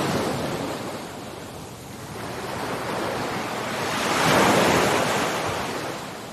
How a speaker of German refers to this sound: Lausche den kraftvollen Wellen. Die Wellen kommen und gehen. Kommen und gehen.